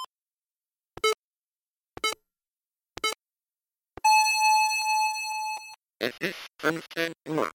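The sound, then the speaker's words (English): A Sharp Talking Time talking clock's hourly chime at 3 o'clock: four short, sharp pips spaced a second apart, then one long, steady, high electronic beep, followed by a synthesized voice speaking. “So what I was about to say before the top of the hour happened”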